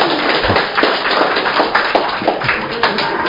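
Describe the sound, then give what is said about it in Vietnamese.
A crowd breaks into steady applause, many hands clapping together in a dense, continuous patter that stays loud and even throughout, with no voices standing out. An audience applauds before a priest tells a story. “Anh chị em cho một tràng pháo tay để nghe câu chuyện của cha kể nhé.”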